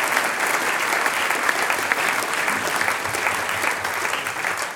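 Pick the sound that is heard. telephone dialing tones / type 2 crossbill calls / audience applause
audience applause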